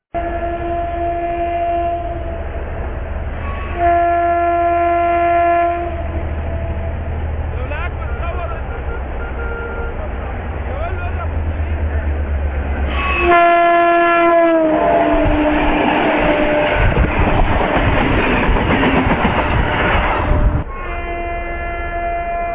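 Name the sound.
train passing with horn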